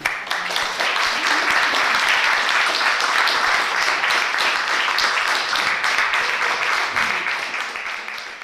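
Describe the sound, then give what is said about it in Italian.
A large theatre audience bursts into sustained applause at the end of a comedy, dense overlapping claps forming a steady loud roar that holds for several seconds before easing slightly at the end. “Insomma, la commedia termina in un vortice di atti di generosità, fra uno scroscio di applausi.”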